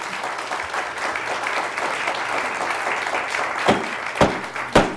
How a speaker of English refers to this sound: We would appreciate your trying to control your applause or whatever, yeah.